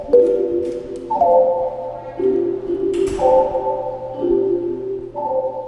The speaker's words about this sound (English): Well, and here we have the vibrations actually in the chimes. Let's hear.